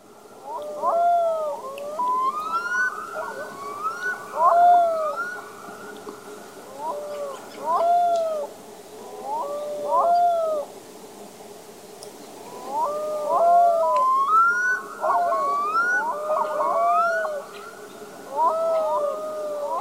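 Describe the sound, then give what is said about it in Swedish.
Black-throated loon calls, heard during a river hike: repeated rising and falling wails and yodel-like phrases, with mournful howl-like notes, sounding in clusters over about twenty seconds against a faint steady hum. “Ja, Ida, det är liksom, man hör ju det här karaktäristiska storlomslätet, men så är det som ett yl också.”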